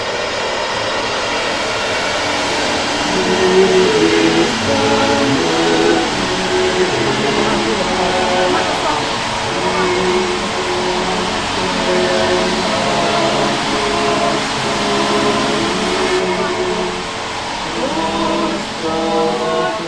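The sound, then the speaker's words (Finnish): A loud, steady diesel engine of a jumbo tunnel drilling rig at the end of a narrow, single-lane, pitch-dark tunnel drones without pause, a heavy mechanical roar with a humming tone. Muffled voices can be faintly heard underneath. “Tunnelin perällä on jättiläismäinen metallinen hyönteinen jumbo.”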